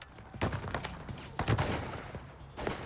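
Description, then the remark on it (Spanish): An exchange of gunfire between the FBI, Texas Rangers and the Johnson County sheriff and kidnappers, at 4 a.m. on 13 January 1985, at a farm in Saltillo, Texas: several sharp, loud shots crack out at irregular intervals, some in quick pairs, over a steady low rumble of background noise, with no voices. “intercambiaron disparos con los secuestradores de Amy McNeil, de 13 años de edad”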